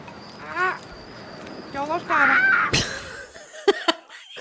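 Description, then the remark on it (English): A bird gives several harsh, harmonic squawks in quick bursts, with a louder, shrill one in the middle, followed by a few sharp clicks and taps. “It's like leaving on the squawks and stuff is like, it's like poking a bruise.”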